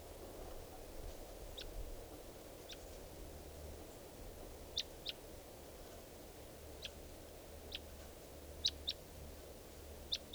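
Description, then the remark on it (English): A wild bird, recorded at 3:10 p.m., gives a series of short, high-pitched chirps, about ten brief calls spaced irregularly over a steady low background rumble, with no voices. “and there's a wild bird here.”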